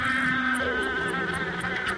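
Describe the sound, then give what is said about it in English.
Flies buzz steadily, a continuous droning hum that wavers slightly in pitch as they move around, with no voices present. “Sometimes there's flies that buzz around,”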